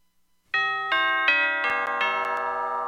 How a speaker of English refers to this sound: Ding dong. Ding dong, ding dong, ding dong.